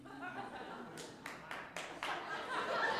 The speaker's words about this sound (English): The one Pitt fan claps.